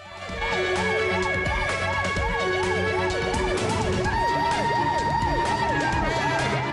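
vehicle, police car sirens approaching

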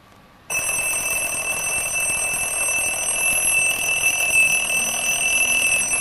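household object, alarm clock ringing

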